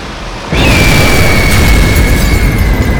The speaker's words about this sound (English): With a wave of her arms, the car crashes into a force field protruding from her body like a head-on collision with a wall. The men thrown from the vehicle, hard.